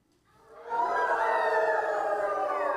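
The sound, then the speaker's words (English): A crowd of people howls like wolves, many voices rising together into a loud, sustained, wavering chorus that holds steady for a couple of seconds, sounding almost like a siren. “All right, there are three noises that I really need you to really perfect. A wolf.”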